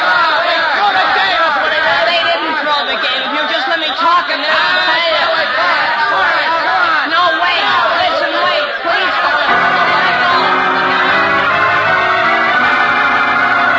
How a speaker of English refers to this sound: Shouting wildly, the angry mob of students surges forward against the locked door, placing Jimmy Olsen and others who have gone down in danger of being trampled.